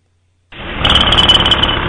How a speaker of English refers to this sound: Shit, that's a jackhammer.